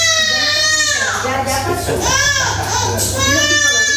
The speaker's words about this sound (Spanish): Hoy se han escuchado más llantos de bebés en los hospitales de lo que suele ser habitual. Pero en este caso es por una buena razón. Ha comenzado la vacunación contra el virus sincitial, el que causa la bronquiolitis